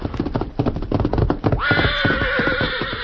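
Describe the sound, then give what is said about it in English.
Victor, Dan's horse, gallops into the camp of the Lone Ranger and Tonto with rapid, heavy hoofbeats for a moment, then halts and lets out a long, loud, quavering whinny that carries to the end. “Meantime, having returned to camp, the Lone Ranger and Tonto were preparing supper when Dan's horse, Victor, galloped in and stopped.”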